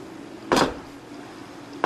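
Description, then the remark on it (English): A male walrus underwater, clapping and knocking at the same time as he slaps his flippers together, makes a sharp, loud clapping knock, then another begins right at the end, both set against a steady low underwater hum with no talking. “Now he's clapping and knocking at the same time.”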